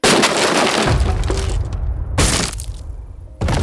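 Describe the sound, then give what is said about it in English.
An upstairs window's glass shatters with a loud, bright crash as something climbs the side of a house to the second floor, then shards tinkle and scatter, followed by a couple more sharp bursts of breaking glass. No one speaks. “An upstairs window shattered.”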